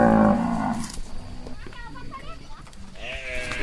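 Cattle herded by cowboys moo in the Pantanal, Brazil, during the dry season amid a cloud of dust. A loud, drawn-out low moo is followed by several shorter, fainter calls from other animals against a rough outdoor background.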